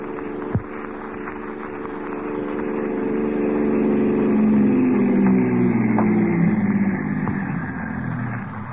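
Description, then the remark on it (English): A car engine hums and grows louder as it draws near, then its pitch drops as it slows and settles into a steady idle. A brief click sounds at the start. “Here's the car.”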